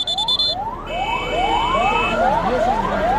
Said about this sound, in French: La sirène des ambulances. Au plus fort de l'épidémie, elle rythmait la vie des Libériens. Pour aller chercher des malades ou ramasser des corps, elles inspiraient crainte et tristesse.